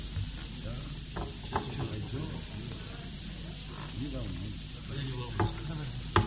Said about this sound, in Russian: Что-то не получается, я глотну сейчас воды.